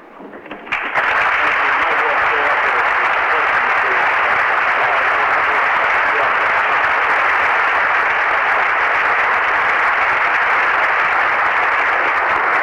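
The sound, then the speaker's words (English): A crowd at the State and Anchorage Chamber of Commerce breaks into steady applause after a speech by Exxon USA President Bill Stevens; it starts abruptly and holds at an even, loud level, a dense wash of many hands clapping with no individual claps standing out. “Friendly reception from the crowd here at the State and Anchorage Chamber of Commerce for a speech by Exxon USA President Bill Stevens.”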